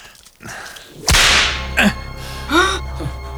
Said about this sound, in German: Eine Peitsche?